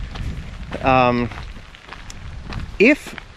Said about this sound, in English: because maybe I'll start walking back, because if it starts raining harder, I'm going to get soaked.